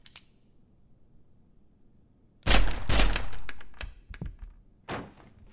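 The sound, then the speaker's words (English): Several sharp, heavy gunshots fired through a door burst out in a loud, muffled cluster, then fade into smaller scattered knocks and one last thump, with quiet before. “I'm shooting through the door.”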